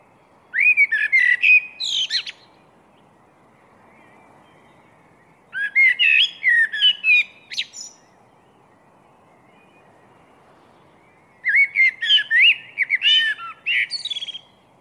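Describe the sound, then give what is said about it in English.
A blackbird sings three clear, fluting phrases spaced several seconds apart, each rich and warbling with twittering flourishes, ringing out loud over a very quiet background hush, in the chilly pre-dawn darkness at the end of January, right by a doorstep. “This blackbird was singing out of the chilled, pre-dawn darkness.”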